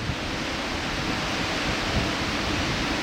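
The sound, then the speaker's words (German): A dense, steady roar of falling water pours down without pause, a broad hiss like heavy rain, as heated cooling water falls over hundreds of grids inside the tall concrete cooling tower of the Cattenom nuclear power plant. “Über hunderte von Gittern fällt das erhitzte Kühlwasser im Inneren des hohen Betonturms nach unten.”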